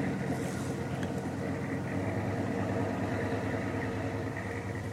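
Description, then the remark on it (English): A deep, throaty engine rumbles steadily, a big old American car idling with a rough, low growl that holds constant throughout, no voices present. “Hey, there's a nice throaty-sounding car. Great big old American beast.”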